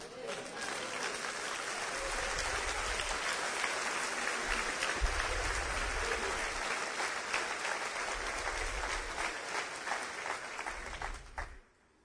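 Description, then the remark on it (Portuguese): An audience claps steadily for about twelve seconds, a dense wash of many hands with low rumbling bursts underneath, then the applause cuts off abruptly at the end. “Se eu fosse Deus, eu iria ficar muito machucado com essas palminhas suas aí.”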